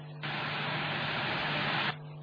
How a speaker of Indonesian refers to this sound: Sekalinya ada suara yang menemani, hanya suara TV yang tidak jelas.